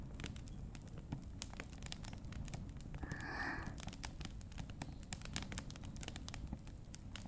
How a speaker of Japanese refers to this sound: 焚き火って本当に不思議。見てるだけで癒されるっていうか。